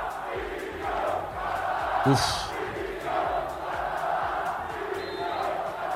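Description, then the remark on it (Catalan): A large stadium crowd at a Sabadell football match against Torrent chants "Català dimissió", demanding the referee's resignation, in unison: a steady roar of massed voices with pulsing accents and a brief sharp shout rising above it midway. “I català dimissió, és el crit.”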